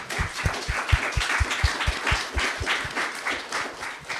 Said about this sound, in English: This is the sixth of the 10 plays. I think that deserves a round of applause in itself.